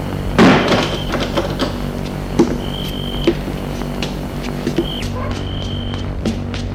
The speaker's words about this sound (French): Descends des escaliers, longe le hall et va ouvrir la porte d'entrée.